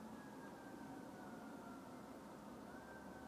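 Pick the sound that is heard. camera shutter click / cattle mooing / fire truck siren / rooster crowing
fire truck siren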